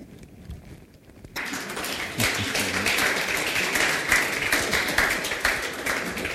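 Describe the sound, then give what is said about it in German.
Applause from an audience starts abruptly after a quiet moment and continues steadily, a dense crackle of many hands clapping at a moderate volume. “Ich denke, der Beifall gilt auch”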